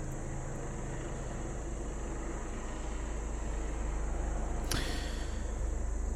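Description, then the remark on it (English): Helicopters drone overhead in a steady, heavy low rumble that fills the whole stretch without letting up, broken only by one brief sharp click near the end. No one speaks. “there goes the choppers again, folks.”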